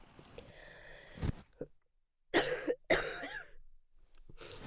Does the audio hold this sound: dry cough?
yes